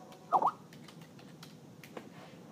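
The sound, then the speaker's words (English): Faint, sparse clicks of typing on a computer keyboard as someone types in a person's name, with one brief louder squeaky burst near the start and no talking. “Okay, I'm typing it in.”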